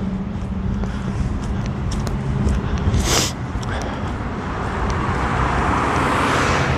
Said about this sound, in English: Dodge Caravan. Jeez. Yes, it's because the intersection is dug up. All this traffic is coming in because the intersection is dug up.